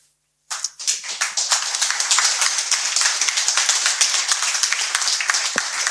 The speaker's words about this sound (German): Also der Applaus war jetzt nicht für das Ende der Geschichte, aber also.